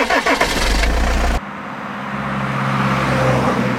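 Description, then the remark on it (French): A bus engine cranks and roars loudly, then settles into a steady, lower diesel rumble as the bus pulls away from Bamako, Mali, bound for Algeria, with no voices. “Ils partent de Bamako en bus jusqu'en Algérie.”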